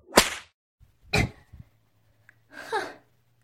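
Three sharp whip lashes crack out about a second apart as someone is being whipped, each a bright, hissing snap that fades quickly, over a faint low hum, with no talking.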